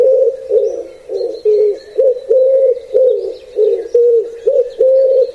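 pigeons cooing

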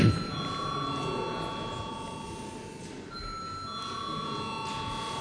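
parliament chamber bell ringing

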